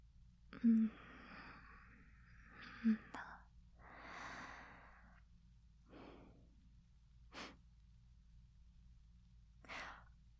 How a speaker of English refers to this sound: Oh my God. I didn't mean to sniff you like that. Oh my God. No, you smell really nice, that's all.